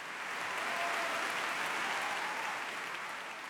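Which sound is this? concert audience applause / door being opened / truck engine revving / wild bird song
concert audience applause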